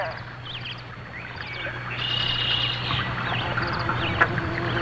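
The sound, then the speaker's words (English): A bumblebee approaches with an angry, low, steady buzz that drones through the whole stretch, growing slightly louder partway through, while birds chirp and tweet in the background. “And a bumblebee approaches us with his angry buzz.”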